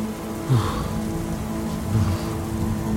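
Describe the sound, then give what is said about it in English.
Light rain falls steadily as a storm passes, a continuous soft patter on a surface with a faint low rumble underneath. No voices, and the level stays even throughout. “It wasn't raining as hard as before. The storm was passing, hopefully it'd be gone soon.”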